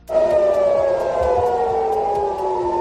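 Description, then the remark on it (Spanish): An air-raid siren in Tel Aviv, set off by a Hezbollah surface-to-surface missile launch, wails loudly and continuously, its steady tone slowly sliding downward in pitch, with faint low rumbling beneath and no voices. “El lanzamiento del misil ha hecho que se escucharan las sirenas antiaéreas en Tel Aviv.”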